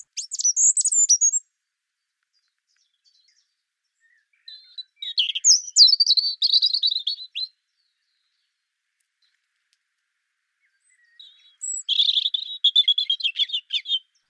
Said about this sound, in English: But there's something fluid and watery about the robin. It trickles and it bubbles and it gurgles. You don't have that flutiness and you don't have the twiddle at the end.